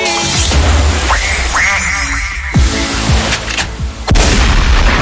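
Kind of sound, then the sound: sound effect, duck quack sound effect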